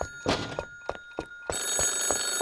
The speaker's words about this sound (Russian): Ой, это же телефон звонит, надо ответить.